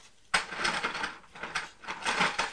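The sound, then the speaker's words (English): A toy train's small motor abruptly starts whirring, a steady mechanical buzz with gear-like grinding that rises and dips for a couple of seconds, with no voices. “Is that a choo-choo?”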